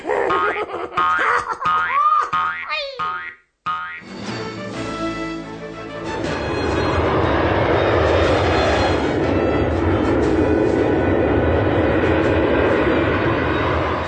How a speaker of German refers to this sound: Sie erheben sich in die Lüfte und schweben majestätisch über den Wolken. Flugzeuge gehören zu den faszinierendsten Verkehrsmitteln.